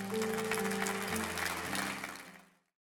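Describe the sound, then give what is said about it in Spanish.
A church audience at Champion Forest claps for the Lord during a service in a dense, steady burst over sustained low keyboard chords, the applause and music holding loud for about two seconds before fading out together. “Le das un aplauso a ese Rey.”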